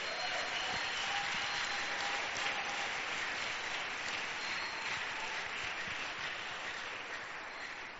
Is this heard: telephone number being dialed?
no